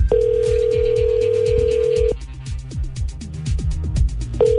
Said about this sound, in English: He can't hear his phone ringing. Or he knows it's you.